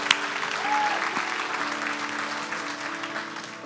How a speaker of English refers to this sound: Come on, let's clap.